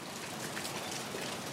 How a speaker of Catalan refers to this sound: Oh, no ho sentiu? Sembla que comenci a ploure.